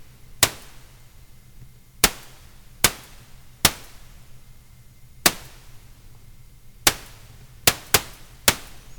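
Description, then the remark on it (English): Sharp, dry pops go off one at a time at irregular intervals, about ten in all, with a few bunched close together near the end, like small firecrackers snapping over a low steady hum. “Just sounds like tiny firecrackers in an alley full of cardboard boxes.”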